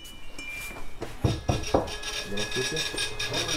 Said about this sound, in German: Millimeter für Millimeter ritzt der Drucker einen Namen in schwarzen Marmor, dann ein Geburts- und ein Sterbedatum. Der kleine Laden in einem Wohngebiet in Kirov ist vollgestellt mit Grabsteinen und Gestecken.